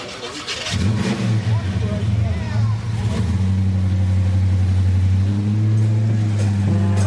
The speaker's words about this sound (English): If you would like to motivate and inspire this group of people with the revving of your truck.